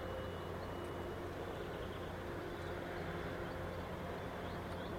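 Steady low rumble of a truck engine with faint tonal hum as the truck stops near a monument erected in 2006 for the 20th anniversary of the catastrophe, before the concrete sarcophagus over reactor number 4; continuous, no voices and no clear change in pace.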